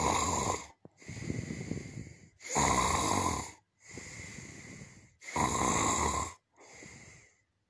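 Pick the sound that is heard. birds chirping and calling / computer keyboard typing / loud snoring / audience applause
loud snoring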